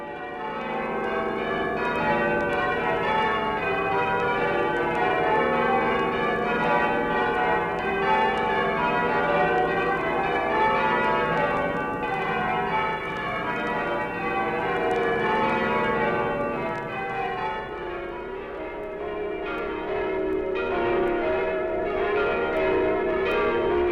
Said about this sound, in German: Jenseits des Kanals, in Westminster, hängen die Männer an den schweren Seilen und lassen Klöppel und Glockenwand aneinanderschlagen.